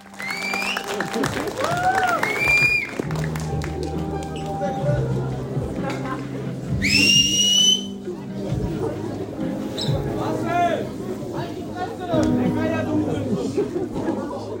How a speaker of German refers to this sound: da sind so ein paar Halbstarke, bla bla bla, die dann da so rumschreien und die haben wirklich Security im Kino gehabt. Und wir können euch jetzt mal gleich einen Sound einspielen, wie das im Kino war.